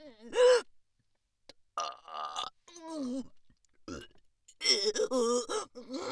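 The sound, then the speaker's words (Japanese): Several loud burps in a row, drawn-out and croaky, separated by short pauses, with voiced strained sounds between them and no clear speech. “ゲップしながら行ったって。”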